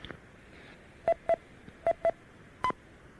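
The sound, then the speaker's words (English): Five short DTMF touch-tone bursts sent as commands to an 850 remote controller to check whether the power amp is on, two quick pairs followed by a single tone, each a clear dual-pitch beep over a faint background hiss with no talking. “The 850 lets you define response messages for the on and off states of several of the outputs, so that commanding or interrogating them reads back the message as well as the beep. Let me see if the power amp is on.”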